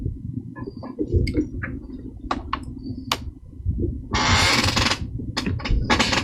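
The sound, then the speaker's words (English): A squeaky chair creaks and squeals in a series of short, irregular, high-pitched squeaks over a steady low rumble, with a harsher, noisy scraping burst partway through. “got a squeaky chair.”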